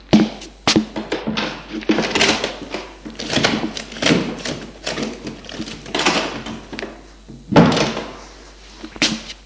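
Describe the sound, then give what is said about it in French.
Rummaging at a cupboard: a door bumps and thuds several times amid soft rustling and clattering as linen is put away on the cupboard shelves, with no one talking. “Et ranger son linge dans les rayons du placard.”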